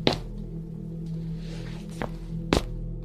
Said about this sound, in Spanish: Pasó un minuto, y fue entonces que escuchamos el ruido de pasos en el techo.